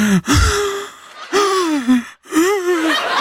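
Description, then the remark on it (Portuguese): A voice imitates the breathless panting of a disoriented young man rescued from the water, producing three drawn-out, gasping breaths with strained, wavering pitch, fairly loud, with short pauses between them. “Você pode imitar um jovem ofegante e desorientado?”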